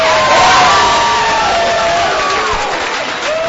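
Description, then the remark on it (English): A large partisan crowd cheers and applauds loudly after a speaker's line about repealing and replacing Obamacare, with whoops and raised voices blending into a sustained roar that holds steady for a few seconds before easing slightly. “Big applause line there for that partisan crowd.”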